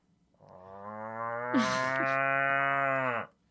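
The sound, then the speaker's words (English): A person imitates a cow greeting another cow with one long, low, sustained moo, held steadily for nearly three seconds, loud and close to the microphone, with a breathy rasp partway through. “Will you please demonstrate how to greet another cow?”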